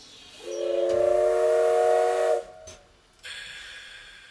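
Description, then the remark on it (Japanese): A steam train's whistle sounds one long, steady, loud blast lasting about two seconds as the train departs on time, then cuts off; after a short pause, a broad hiss of escaping steam follows. No one speaks. “発車、出発進行、 バッチリ定時。”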